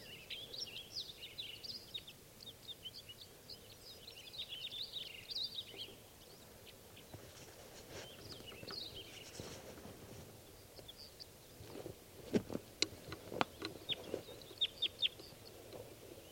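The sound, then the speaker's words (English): Birds, two males and one female, chirp outdoors in spruces near a net setup in quick, high bursts for several seconds, then fall quieter; later, a series of sharp, irregular clicks and knocks stands out against a low background rumble. No one speaks. “And these birds don't look like they're too anxious to come down.”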